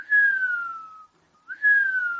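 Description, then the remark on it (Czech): A small pipe in a little tower chamber sounds as the wind blows into it: a clear tonal whistle plays two long, slowly falling notes separated by a short pause, fairly loud with no talking. “To se ozvala píšťalka v komůrce, jak do ní foukl modravý větřík.”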